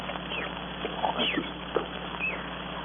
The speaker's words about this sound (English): Monkeys, those crazy monkeys. I could strangle them.